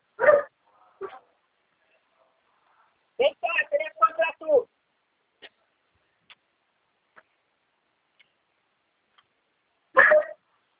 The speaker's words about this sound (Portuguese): Ô, cachorro.